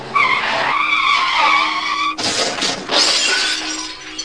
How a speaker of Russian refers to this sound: Тем временем пошел дождь и намочил дорожное покрытие, но лейтенант не сбавлял скорость. На крутом повороте около оврага машину занесло, закрутило, и она, кувыркаясь, пошла под откос в овраг.